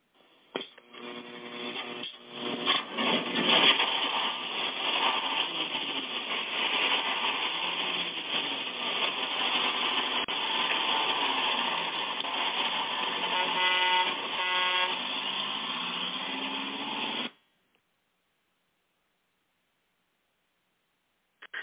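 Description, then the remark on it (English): A bus engine runs with a steady, loud rumble as the bus gets ready to pull out of the station, while a brassy horn honks over it in repeated blasts, all lasting about fifteen seconds before cutting off abruptly into silence. “who do we have on the old gospel bus as we get ready to pull out of the station tonight?”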